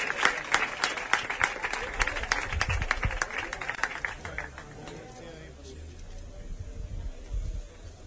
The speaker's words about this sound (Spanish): Fuerte el aplauso para los chavales también que están pasando un poco de calor.